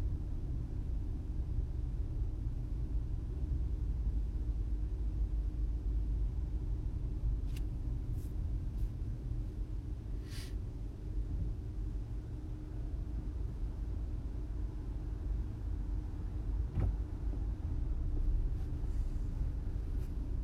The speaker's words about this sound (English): Well, here we are, I guess. Sitting in traffic next to this Land Rover.